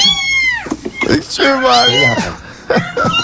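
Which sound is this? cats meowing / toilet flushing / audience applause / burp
cats meowing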